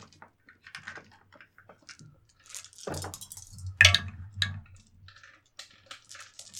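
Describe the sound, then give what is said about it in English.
Dice clatter and tumble through a dice tower for a dexterity athletics roll, scattered light clicks building to a loud, hollow rattling burst in the middle, then trailing off into a few soft taps. No voices. “I moved my dice tower because I didn't want to deafen anyone anymore.”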